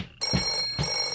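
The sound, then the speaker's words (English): The Zucchini Brothers Clubhouse telephone rings with a bright, metallic bell tone, two quick rattling bursts about half a second apart, clear and fairly loud, with no one speaking. “Clubhouse phone.”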